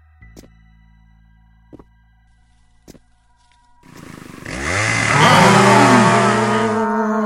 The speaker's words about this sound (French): C'est une tronçonneuse qui sortait du buisson.